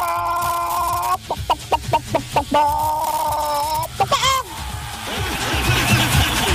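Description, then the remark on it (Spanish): A person imitates a hen as if about to lay an egg, alternating drawn-out cackling calls with quick bursts of short, rhythmic clucks, loud, before the voice stops and only background noise remains. “No, yo iría a hacer Terian ahí a la plaza, pero de gallina. A hacer. Como que voy a colocar un huevo.”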